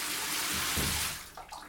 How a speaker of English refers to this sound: But then that next morning, while I'm taking my shower,